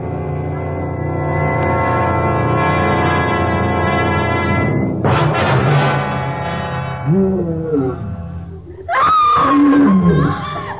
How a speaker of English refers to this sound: Wild beast and the scream of a woman.